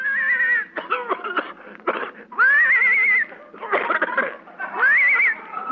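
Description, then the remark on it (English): A horse towing a car whinnies hoarsely three times in close succession, loud, each shaky squealing call separated by rough, raspy snorting bursts. “I think the horse is horse.”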